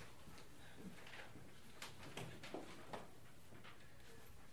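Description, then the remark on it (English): A door being opened: a short cluster of quiet clicks, rattles and soft knocks over a couple of seconds, set against low room noise with no one talking. “Okay, let me just open the door.”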